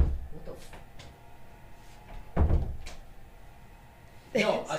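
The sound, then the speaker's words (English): A door being tugged and rattled by someone struggling to open it, with two heavy thumping jolts a couple of seconds apart and quieter creaks between, with faint voices in the background. “Why is it so strong? No, you're just like weak as shit. Just open the door, man.”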